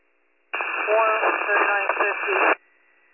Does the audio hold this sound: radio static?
yes